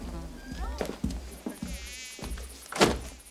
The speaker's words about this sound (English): enters the room, which has frogs and a fly buzzing around.